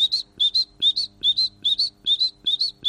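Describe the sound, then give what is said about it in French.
A great tit sings its bright two-note 'teacher-teacher' phrase, repeated steadily about seven times, clear, with no voices over it. “Tu as reconnu la mésange? Tout à fait. Voilà, la mésange charbonnière qui fait des”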